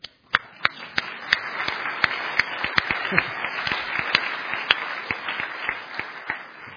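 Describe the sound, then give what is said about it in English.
A crowd applauds steadily for several seconds, a dense wash of clapping with sharper individual claps popping out irregularly above it, fairly loud and without any talking; the applause is for the web team. “So, big round of applause for the web people.”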